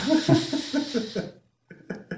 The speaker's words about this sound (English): Oh, there's a dog over there. Well, he actually is not listening. He's fast asleep. He's asleep. He's going to start snoring anytime.